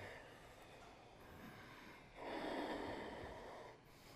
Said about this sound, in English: Ujjayi breathing.